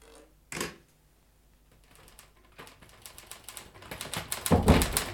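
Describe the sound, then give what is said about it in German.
Rapid, uneven typewriter keystrokes clatter, starting with a single sharp strike, then building into denser, louder bursts of key hits toward the end. “Sie haben eine Schreibmaschine gefunden?”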